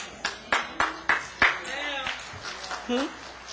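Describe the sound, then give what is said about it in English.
A handful of hand claps from an audience, about five sharp, evenly spaced claps in the first second and a half, fading out as scattered voices murmur and call out. “Not much hand claps on that.”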